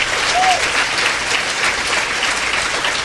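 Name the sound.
audience applause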